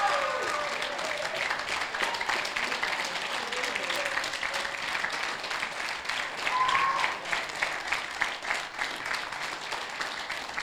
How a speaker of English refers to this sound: Can you just give them a big round of applause or thank you?